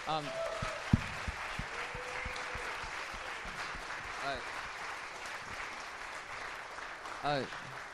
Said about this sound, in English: And I'd like a round of applause for all of our staff and speakers.